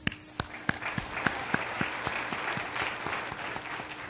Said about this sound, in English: Amen. Can we give a mighty hand clap to the Lord this morning?